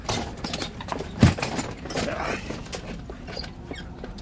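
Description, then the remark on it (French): Hooves of a horse-drawn carriage clip-clop at a steady walking pace, with a sharp louder knock partway through and faint squeaks and rattles of the carriage in the background. “Viens, ma voiture est là.”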